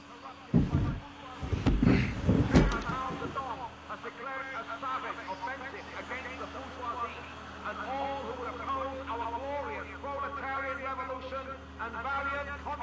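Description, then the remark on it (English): A propaganda truck's vehicle-mounted loudspeaker blares amplified speech from outside, steady and slightly muffled over a low engine hum, with a few heavy knocks near the start. “It's a propaganda truck.”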